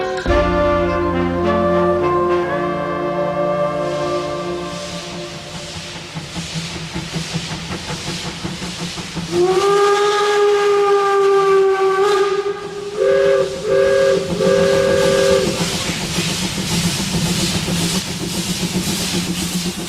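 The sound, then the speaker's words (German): A steam locomotive whistle blows loud in long harmonic blasts, with a second sustained blast and short stuttering toots, over a continuous roar of hissing steam. “Unser Zug war nicht weg, wir waren weg mit dem Zug.”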